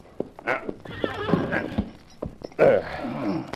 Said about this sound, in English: Me get horse. Good. Steady there. That's it. Here, horse.